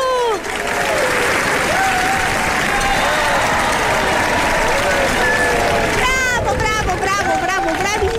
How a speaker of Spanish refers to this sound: Así que pido para ella, para Mercedes, un gran aplauso.